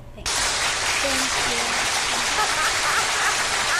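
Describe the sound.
Hand clapping bursts in after a brief silence and holds as a dense, steady wash of many claps, with faint voices underneath, continuing evenly to the end.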